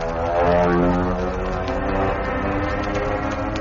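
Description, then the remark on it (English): A steady, loud drone of airplane engines, with a deep propeller throb and layered harmonic hum holding constant throughout, heard alone with no voices. “The passing year served only to increase his devotion, his singleness of purpose, until it seemed as though his very life expressed itself in the roar of airplane motors.”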